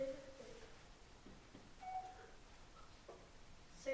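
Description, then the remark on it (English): A cordless phone handset gives short, thin electronic beeps, about three of them spaced roughly two seconds apart, fairly quiet over a low background hiss with faint handling clicks, as it searches for its base station. “I'll take it off there so it stops beeping.”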